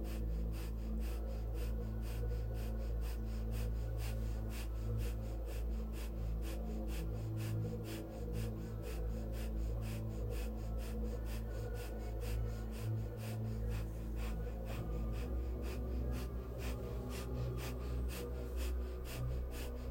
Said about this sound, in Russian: Продолжая наше сильное дыхание, мы делаем вдох и выдох. Сильный и глубокий вдох и выдох.